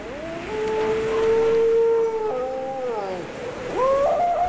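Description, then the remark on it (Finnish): A person imitates a dog's howl with long, wavering sustained tones that slide in pitch, dropping and then rising again near the end, fairly loud with no talking. “Siis tää ulvova koira.”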